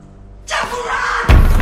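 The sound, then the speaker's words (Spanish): A door slams shut as a woman enters and closes it, with a heavy, booming thud that cuts sharply through a steady rush of background noise, loud, followed by lingering low rumble. “Ella entra y cierra la puerta.”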